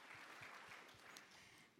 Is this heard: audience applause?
yes